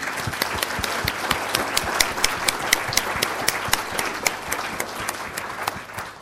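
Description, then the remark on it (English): A crowd at an event applauds the sponsors Mazars and Sage, many hands clapping steadily in a dense, even patter with sharp individual claps standing out, fairly loud and sustained for several seconds before easing slightly at the end. “So please can we have a really big round of applause for them.”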